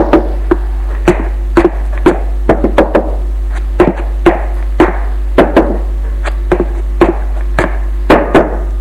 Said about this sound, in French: Il monte à l'étage. Et pour trouver la chambre, il frappe à toutes les portes.